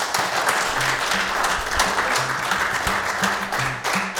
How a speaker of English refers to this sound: So all of these people are such superb musicians, we feel honored that they would want to play with us on the same stage. So let's have another round of applause for them because they're really great.